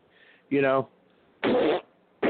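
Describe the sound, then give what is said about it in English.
Three short, loud fart noises in a row: a buzzy, sputtering one with a wobbling pitch, then two harsher, breathy blasts separated by brief pauses, close up and with no talking. “Well, if cows fart, so do liberals.”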